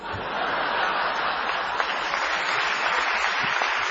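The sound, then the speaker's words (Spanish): A crowd applauds steadily for about four seconds, a dense, even wash of clapping that starts abruptly and holds at a constant loudness with no voices over it. “¿Qué aplaude?”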